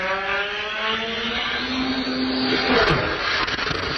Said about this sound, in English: That's actually... A little morbid, but that's that plane crash that happened earlier this week. That's actually real? Yes.